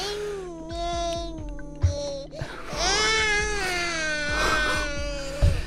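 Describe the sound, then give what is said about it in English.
A baby with a paper towel put over its face to calm it cries loudly and continuously in long, wavering wails, the high pitch rising and falling, with a brief gasping break between the two drawn-out cries. “Look, I'm going to put a paper towel over the baby's face and it'll maybe calm it down a little bit.”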